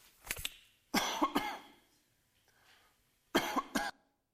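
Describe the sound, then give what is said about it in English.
A person coughs into a microphone: several harsh coughs come in three quick bursts, each a cluster of two or three hacks, separated by short pauses with no talking. “Sorry, try not to cough right into the microphone and hurt anybody.”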